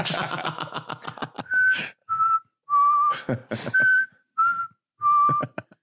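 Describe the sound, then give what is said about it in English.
A voice whistles a short tune imitating a recorder, steady, clear notes, each held about half a second with brief gaps, the pitch stepping slightly up and down. Rapid choppy bursts come first. “The curtain just playing perfect recorder sounds.”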